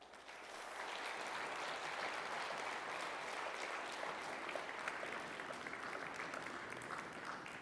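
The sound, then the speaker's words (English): Sustained audience applause, a dense wash of many hands clapping at steady volume for several seconds, rising quickly at the start and holding without pause, given as another round of applause for an advisor. “By the way, let's just give her another round of applause because she did a wonderful job.”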